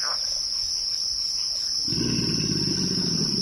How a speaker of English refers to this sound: Kim Wilson recorded this chorus of bird songs, frog calls, alligator grunts, and the squeal of an amphibian being skewered by a heron in the primordial waters of the bayou.